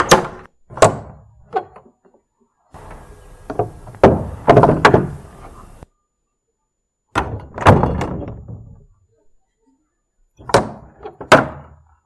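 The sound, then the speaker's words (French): A large heavy door slams shut with deep booming thuds, several impacts in clusters with resonant, reverberating decay and silent gaps between. No voices. “Le bruit d'une porte qui était en train de se refermer.”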